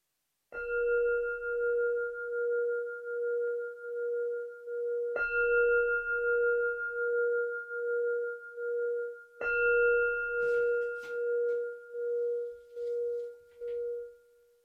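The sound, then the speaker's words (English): A meditation bell is struck three times to mark the end of a meditation, roughly five seconds apart. Each strike leaves a steady, humming ring with a slow pulsing waver that carries over into the next strike. “I'll ring a bell 3 times to indicate the end of the meditation.”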